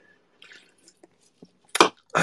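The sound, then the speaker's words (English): Someone drinking water: quiet wet sips and small swallowing clicks, followed by a louder splashy gulp and another slurp at the end. No one talks. “I have to like drink water.”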